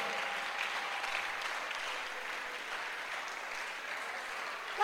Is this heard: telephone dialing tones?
no